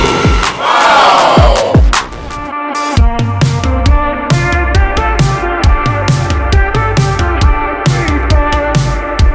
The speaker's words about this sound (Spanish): los amigos los recibimos con aplausos, así que allí está.